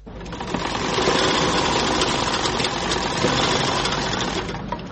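A sewing machine in a small tailor's shop, where men's clothes are being sewn, runs steadily with a dense, rapid mechanical chatter and a whirring motor hum, holding an even loudness for the whole stretch with no voices.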